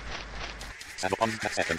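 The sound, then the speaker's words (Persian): In an audio game, the target duck quacks in a quick run of short, nasal bursts, clear and distinct, after a brief stretch of low rumbling noise at the start. Its sound differs from the other ducks, and the player must move toward it and press F to catch it. “این صدای اردک هست که باید برین سمتش رو با اف اردک رو بگیرین.”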